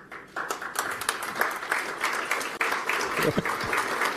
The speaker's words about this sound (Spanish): No sé por qué aplauden, ¿qué están aplaudiendo?